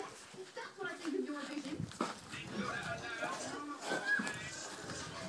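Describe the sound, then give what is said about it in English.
A dog, Safi, whimpers and whines in thin, high-pitched bursts that rise and fall repeatedly, wanting to go out again just after coming back in, while a person speaks over the restless sounds. “You want to go out? You want to go out again? When we've just come back in. Will you be quiet if you do?”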